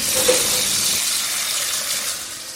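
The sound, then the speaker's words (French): Water runs steadily from a tap into a saucepan, filled to boil peeled white asparagus, a continuous bright hissing rush that stays loud throughout, with a slight shift in tone partway as the level rises. “Je vais remplir une casserole d'eau bouillante.”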